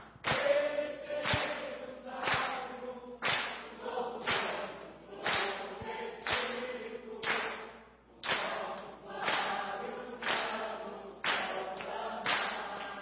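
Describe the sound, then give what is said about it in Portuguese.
A crowd claps in unison at a steady beat of about one clap per second, loud and full, continuing through the whole stretch with a faint murmur of voices beneath. “Só com palmas, só as palmas.”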